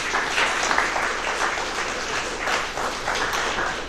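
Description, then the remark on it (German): An audience applauds steadily as a speaker is introduced before his talk on T-Mux, a dense wash of many hands clapping at an even, fairly loud level for a few seconds without any voices. “Ich bitte um einen kurzen Applaus und dann kann es losgehen.”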